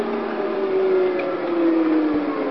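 The electric air conditioning unit of an electric truck hums and whirs continuously, a constant droning motor tone with a broad airy rush, fairly loud, with no voices.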